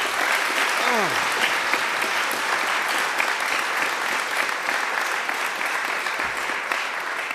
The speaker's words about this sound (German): Einen großen Applaus